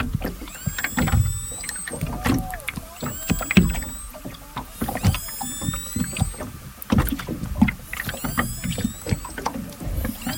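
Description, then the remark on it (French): Distress cries of an orca in trouble, recorded by bioacoustician Charlotte Curé during operations to save it and return it to the sea: shrill, whistling squeals that rise and bend, repeating in about four bursts over a steady bed of low knocking and rumbling water noise. “Parce que l'animal était bien en détresse, en témoignent ces cris que Charlotte Curé a enregistrés et m'a envoyés.”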